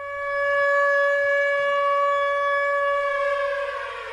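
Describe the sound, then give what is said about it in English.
A loud code red rocket alert siren holds one steady, piercing wail for the full few seconds, its pitch sagging slightly near the end, with no voices. “Seeing the fear on her daughter's face each time a code red siren is sounded has made her want to leave.”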